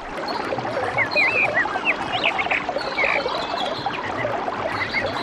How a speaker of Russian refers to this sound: В лесах пели прекрасные птицы и танцевали павлины.